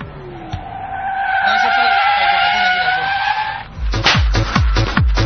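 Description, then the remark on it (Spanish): A long, loud tire screech sound effect of a braking car, a sustained high squeal lasting several seconds, followed by a burst of talking from someone. “Yo tenía preparado ya el frenazo aquí.”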